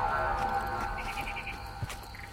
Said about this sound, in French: et que là, la pluie des derniers jours a un tout petit peu rempli, et ben, après le silence, maintenant, en fait, les grenouilles reviennent petit à petit et on les entend chanter.